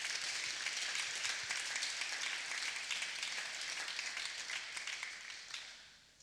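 An audience breaks into a round of applause, a dense, hissy wash of many hands clapping that holds steady for several seconds before thinning and fading out at the end.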